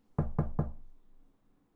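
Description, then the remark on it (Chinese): A food delivery person gives three quick, evenly spaced knocks on a door, solid, each with a short boomy ring that fades into quiet afterward. “开门，是我。”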